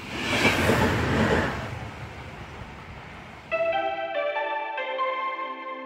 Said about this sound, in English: I have to say, in Switzerland, the very exciting thing is we have the new train, which is going to be going very fast to Milan now, or reasonably fast, complete, just launched with a dining car.